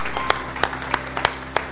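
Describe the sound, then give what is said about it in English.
An audience claps their hands for the Lord in a steady, rhythmic beat, sharp claps landing about three times a second over a low background hum, with no voices. “Give the Lord a hand clap tonight.”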